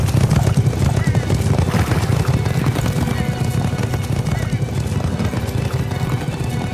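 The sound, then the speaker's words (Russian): Loud, dense drumming of a red horse's hooves clip-clopping at a fast, steady pace as it comes forth, with a horse neighing amid a low rumble that continues throughout. “И вышел другой конь, рыжий, и сидящему на нем дан большой меч.”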